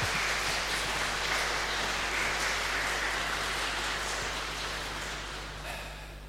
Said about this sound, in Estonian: tahaks kohe plaksutada, näe hakategi plaksutama.